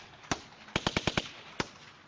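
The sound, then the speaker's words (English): Sharp gunshot blasts arranged into a beat: a lone shot, then a quick rhythmic burst of five, then another single shot, loud with no talking. “This is the hardest beat anybody's ever heard. It's made out of gunshots.”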